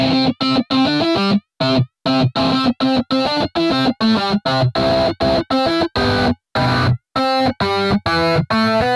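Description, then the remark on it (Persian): A synthesizer imitating a distorted electric guitar plays a fast, choppy melody of short staccato notes separated by brief gaps, loud and buzzy with bright harmonics and no voices; the tune is from the Mario computer game. “این آهنگ که به بازی کامپیوتری ماریو تعلق داره با استفاده از سینتیسایزری که صدای گیتار الکتریک رو شبیه سازی میکنه تولید شده و به این شکل شبهی الکترونیک از آهنگ اصلی رو در ذهن شنونده تداعی میکنه.”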